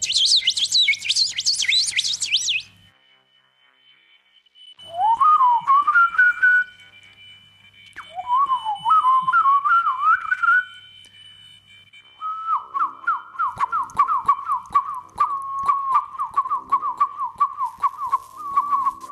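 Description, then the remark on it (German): A songbird sings several distinct phrases in turn, opening with a bright high trill, then rising whistled notes, then a long steady warbling run, all clear with short pauses between. It is a good singer that varies its song phrases rather than repeating the same one. “Besonders guter Sänger, der singt nicht immer das Gleiche, sondern wandelt seine Strophen ab.”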